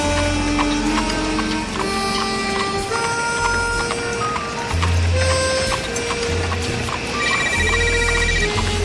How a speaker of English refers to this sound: Your cell phone ringing. I didn't hear your cell phone. Oh, Jesus, that is me.